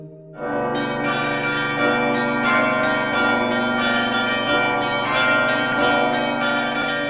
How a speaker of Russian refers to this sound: Традиция делать такие языки идет с запада и призвана смягчать удары языка о стенки качающегося колокола. У нас колокола не качаются, а звук становится мягче и теплее.